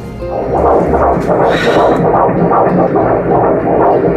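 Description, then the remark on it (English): A rapid, steady fetal heartbeat of a baby boy whooshes and throbs through an ultrasound monitor, loud, with rhythmic muffled pulses repeating quickly and no voices over it. “Let's hear his heartbeat.”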